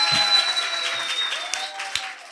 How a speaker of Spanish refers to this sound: ¡Fuerte el aplauso!